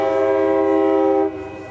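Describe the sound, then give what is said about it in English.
A loud, sustained train horn blares beside train tracks that run right next to an office building in Emeryville, California, near the foot of the Bay Bridge, in a single long, steady blast that cuts off abruptly, leaving a fainter rumble behind. No voices are heard. “We're right near the foot of the Bay Bridge, and there are train tracks that run right next to our building.”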